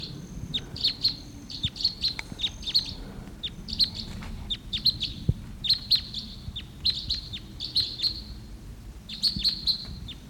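Flight calls of a wild type 2 red crossbill coming in and flying over in the early morning of August 16th: sharp, high 'kip' notes repeated in quick clusters throughout, fairly loud over a low, steady rumble, with no talking.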